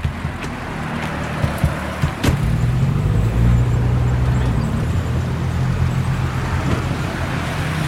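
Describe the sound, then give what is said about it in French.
Steady low engine rumble of a 1955 Chevrolet driving in Cuba, heard from inside the cabin with six people aboard, with constant road noise and a few brief knocks and rattles, fairly loud and continuous with no talking. “Une Chevrolet 1955. On est 6 là dans la voiture”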